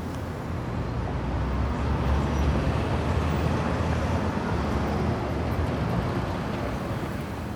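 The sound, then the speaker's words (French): Steady, dense rumble of road traffic, a continuous wash of passing cars blending into a low roar at moderate volume, with no distinct individual vehicles and no voices. “Toujours plus de voitures, toujours plus de pollution.”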